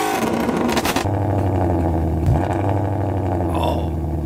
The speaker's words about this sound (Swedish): Jag tyckte inte det lät som en V8. V8-motorns dag idag. Så att, det kan vi lyssna lite till.